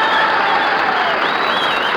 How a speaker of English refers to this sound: And I would like Milwaukee to make a large noise in favor of … and the concert in miniatures. Come on, start clapping.